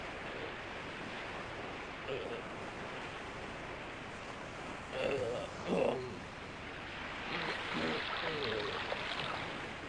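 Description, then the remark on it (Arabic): Storm-tossed sea waves crash in a steady, loud roar of churning water, with a couple of heavier surges breaking through near the middle and another swell toward the end. “لا يمكنه، انجو بنفسك، فلن تستطيع سحبي وصل هذه الأمواج المتلاطمة أبدا.”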